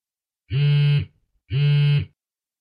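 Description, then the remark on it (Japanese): A telephone rings twice, each ring a steady, buzzy electronic tone lasting about half a second, separated by a short pause. No voices are heard. “お、また電話だ。”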